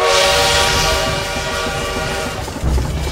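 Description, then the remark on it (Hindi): A train approaching Kakori rolls along steadily, its low rumbling and rattling wheels mixed with sustained harmonic tones like a horn or whistle, loud throughout with no voices. “उन्हीं का खजाना चलती हुई गाड़ी से लूटा”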